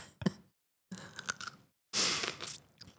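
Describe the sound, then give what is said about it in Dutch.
Crunching bites into a long green chili pepper, three separate bursts of biting and chewing with short silences between, the last one louder and wetter. “pak nu een langwerpige groene peper. Ik ben benieuwd.”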